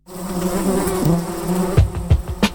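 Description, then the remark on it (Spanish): A housefly buzzes in a steady, wavering drone that rises and dips in pitch, with a few short surges and bumps near the end. No one speaks. “Insistente. Revoloteando en el aire. Insistente. Revoloteando en el aire. Insistente. Revoloteando en el aire. Revoloteando en el aire. La Mosca Radio.”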